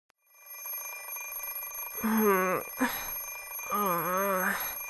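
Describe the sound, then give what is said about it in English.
An alarm clock rings steadily with a shrill, continuous tone from start to finish, while a person groans and whines loudly over it twice without clear words. “Something is ringing. Shut up! Stop it! The sound doesn't stop. It rings loudly as if I'm an enemy.”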